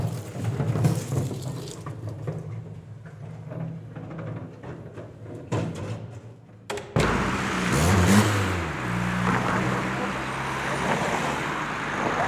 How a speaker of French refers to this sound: Et elles sont des voitures.